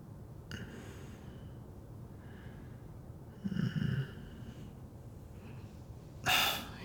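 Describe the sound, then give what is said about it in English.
Breathy inhales through the nose: a soft, rumbling draw of air midway, then a sharper, louder sniffing intake near the end, with no talking. “If I put it directly on my nose and breathe, breathing you in.”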